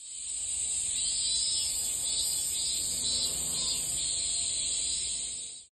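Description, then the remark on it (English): A dense, continuous chorus of cicadas buzzing, a loud high-pitched drone that holds steady throughout with a slight shimmering pulse, and no voices. “And just recently, maybe 2 days ago, he sent a short video with the sounds of cicada.”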